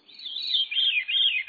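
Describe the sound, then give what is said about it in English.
A veery sings its breezy, reedy song, a series of high whistled notes spiraling downward in a continuous rolling phrase. It is clear, with no other sounds around it. “The veery.”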